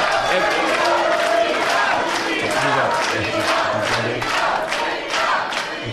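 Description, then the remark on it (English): A large crowd of fans yells and cheers continuously, a dense, loud roar of many overlapping voices with occasional sharper shouts rising above the din throughout. “Oh, I think they're yelling that because they're all fans.”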